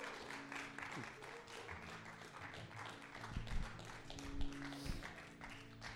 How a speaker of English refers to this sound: And if you're happy and you know it, clap your hands, somebody.